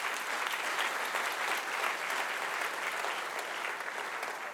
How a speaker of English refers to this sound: Please give him a round of applause as well.